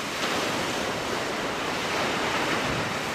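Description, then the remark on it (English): Steady, roaring surf from 15-foot waves on Lake Superior, near Duluth, curling and crashing against icy rocks at a cove in sub-freezing winter temperatures; a dense continuous wash of noise with slight surges, loud, no voices. “They congregate at a cove where 15-foot waves curl and break on icy rocks in sub-freezing temperatures.”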